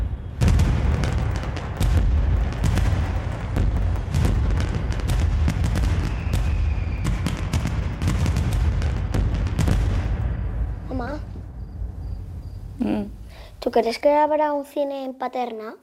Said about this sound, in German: Ein Feuerwerk am Nachthimmel, vor der verlassenen Bahnstation.